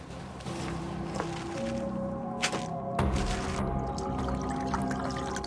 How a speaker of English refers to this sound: Next, he pours a glass of red wine